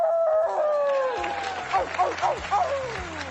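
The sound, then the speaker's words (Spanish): A woman howls like a wolf on stage at the Oscars after Nomadland is named best picture, one long, sliding, falling wail, followed by several shorter rising-and-falling whoops over a low, steady background hum. “pero luego cuando Nomadland fue elegida mejor película, ella también subió y se puso a aullar.”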